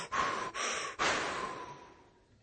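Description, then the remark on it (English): A voice imitates heavy CPAP mask breathing: two quick, hissing inhalations followed by a long, raspy exhale that slowly fades, fairly loud, with no talking. “I have a CPAP. Like Darth Vader.”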